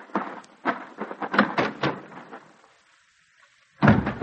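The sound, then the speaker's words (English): A door is handled and pulled open, with a run of uneven rattles and clunks, a brief silence, then one more sharp thud. “Open the door for him. Go on, open it.”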